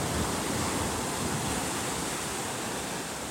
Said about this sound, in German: Man läuft hier einfach am Strand, ganz gemütlich. Und man hört das Wasser fließen. Man hört einfach zu, wie das Wasser kommt, wie es fließt, wie es sich den Weg bahnt am Strand entlang. Da flutet es auch immer wieder ein Stückchen mehr.